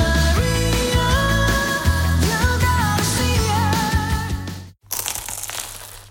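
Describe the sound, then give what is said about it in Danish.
A loud crunching bite into a crisp, flaky croissant in Paris follows a stretch of music, the crackly crunch ringing out briefly after a short pause. “Dette er lyden af dig, der tager en bid af Paris' lækreste croissant.”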